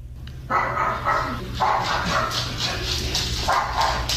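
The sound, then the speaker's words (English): An Alexa smart speaker, told to bark like a dog, plays a small dog barking sound effect: a rapid series of thin, yappy barks in quick bursts, sounding tinny over a low steady hum. “So I tried to get a sound effect of Alexa barking, and it doesn't sound like it's very...”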